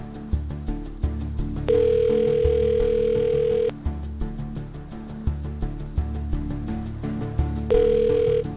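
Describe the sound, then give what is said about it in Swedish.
A steady telephone dial tone sounds over a rhythmic thumping beat, then cuts off abruptly after about two seconds; the tone returns briefly near the end. It is a call to Svenska Missionsförbundet in Stockholm on a battery-powered phone whose connection keeps breaking. No one speaks. “Det gäller bara att hålla hårt på polerna där, för att så fort jag tar isär det så funkar inte telefonen.”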